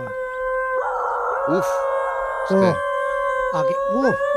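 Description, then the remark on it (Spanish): Several wolves howl together, a sustained tonal howl layered with rising and falling yips and wavering calls, loud, with no talking over them. “Es que no son tan distintos a nosotros los lobos.”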